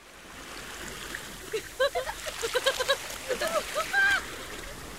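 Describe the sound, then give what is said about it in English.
Steady rushing and splashing of ocean water as children swim in the ocean, with children's excited voices calling out over it in short bursts through the middle. “Some children like swimming in the ocean.”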